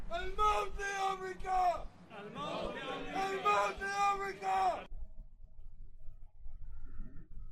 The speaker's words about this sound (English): Hey, DOJ, I hope you're up the ass of every one of these people who are chanting death to America today.